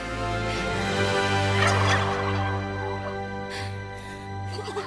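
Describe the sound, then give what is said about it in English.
Several escaped turkeys gobble inside a beach hut in overlapping, warbling bursts, fairly loud, with a steady low drone beneath them and no voices. “opens the door and finds all the escaped turkeys inside”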